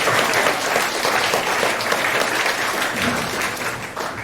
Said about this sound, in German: Vielen, vielen Dank. Dann einen großen Applaus an die Gruppe.